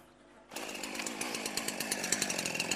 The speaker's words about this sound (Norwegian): dessverre den saga så sløv, for jeg har sett gjennom så mye spiker.